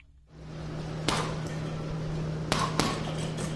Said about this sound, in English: got his eyes fixed on a punching bag. Jab after jab, he doesn't break focus. He's at Wailing City Athletic Club, and he's got the place to himself this morning because a winter storm kept other boxers off the roads.